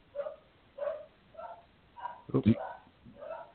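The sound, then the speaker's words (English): Dogs bark in a steady run of about six short, sharp barks, roughly half a second apart, with one louder, harsher bark near the middle, heard through a somewhat thin-sounding line. “Don't worry about the dogs, man. The dogs are good.”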